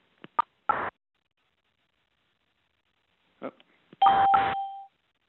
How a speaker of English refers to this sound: I just keep hearing these beeps. More and more people are getting on this call. We've got several hundred people on the call